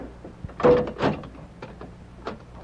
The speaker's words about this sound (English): Did we leave this redskin here on the floor of the cell? Yeah. Give me his gun. Sure. Here. Thanks. Now close and lock the door.